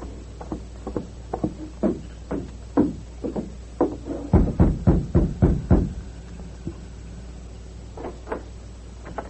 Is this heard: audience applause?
no